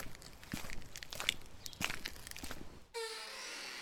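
Crunching footsteps outside a door, early in the morning while it is still dark, in Capernaum by the Sea of Galilee, shuffle along for about three seconds in an uneven rhythm, then stop abruptly and give way to a steady, higher hiss with a faint tonal whine.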